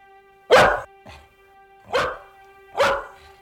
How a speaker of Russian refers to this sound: Потом откуда-то сверху скатилась лохматая черная собака. Она громко лаяла.